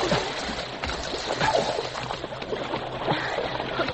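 Continuous sloshing and splashing of river water, fairly loud, with uneven churning bursts as Sergeant Preston wades in at the river's edge toward shore to help.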